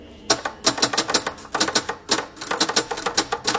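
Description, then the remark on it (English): Rapid clacking of typewriter keys in uneven bursts, with short pauses between flurries of strikes, fairly loud with no voices. “I sat every day at the typewriter, and I did not know what to write.”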